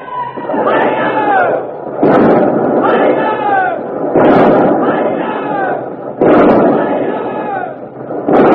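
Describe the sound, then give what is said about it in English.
The ship Revenge fires a broadside from her port guns, 60-, 30-, 18- and 9-pounders, at the Armada at point-blank range: five heavy, booming blasts about two seconds apart, each a loud rumbling burst, while voices shout and cry out over the guns. “But the Revenge is stopping, turning broadside, showing her port guns to the Armada, the 60-pounders, the 30s, the 18s, the 9s. You'll hear all of them in a moment.”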